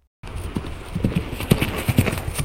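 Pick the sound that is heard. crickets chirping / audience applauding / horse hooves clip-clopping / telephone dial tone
horse hooves clip-clopping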